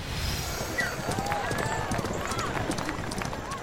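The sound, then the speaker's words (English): Rapid, heavy hoofbeats of black horses galloping at full speed in a chariot race held as funeral games, a dense rumbling drum of thuds mixed with the roar and shouts of an excited crowd. “Look how fast black horses are riding!”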